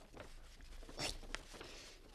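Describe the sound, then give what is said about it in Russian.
Dry scratchy rubbing of an eraser scrubbing back and forth on paper to rub out a bad grade mark, with a louder rasping burst in the middle as the sheet gives way and tears through to a hole, no voices. “Ну и бумага рвется.”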